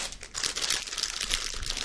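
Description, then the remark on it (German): Steady crinkling of a plastic bag of Haribo sweets being handled, a dense crackly rustle that continues for about two seconds with no one speaking. “Du hast auch eine Tüte.”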